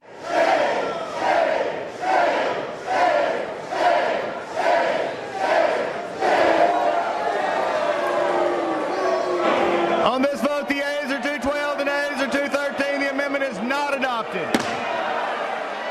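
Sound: lawmakers booing and hissing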